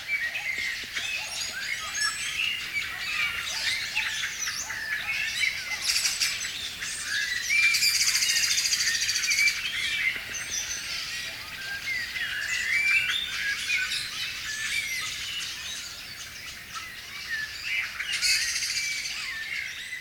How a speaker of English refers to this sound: So what you're hearing is a chorus of mainly blackbirds. This area is also close to some towns, so you're listening to some dogs as well. But the complexity of blackbirds in this case, it's quite astonishing.